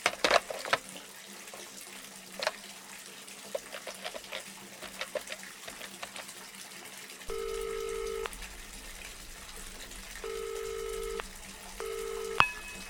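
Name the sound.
water running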